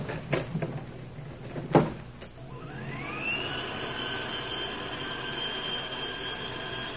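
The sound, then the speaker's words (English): A few clattering knocks and a sharp metallic bang as the elevator door shuts, then a motor whine rises in pitch and settles into a steady humming drone as the elevator rises. “Get in the elevator.”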